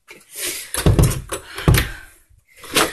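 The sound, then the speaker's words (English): Loud, heavy knocks against a door, a handful of dull thuds with a hard edge landing at an uneven pace, some bunched together and one coming after a brief pause. “Knocking on my door one more time.”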